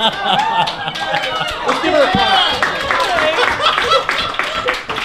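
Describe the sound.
A live audience claps and cheers for a few seconds for a panel speaker, a dense, steady wash of hand claps mixed with excited voices and whoops, fairly loud throughout.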